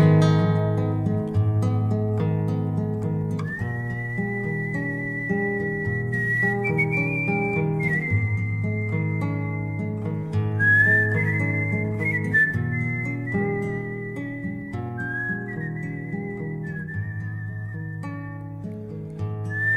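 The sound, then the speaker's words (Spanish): A slow, mournful melody whistled by a person, with long sustained notes and gentle glides, carried over a steady instrumental accompaniment, with no talking. “pero se don Segundo con su silbido tristón”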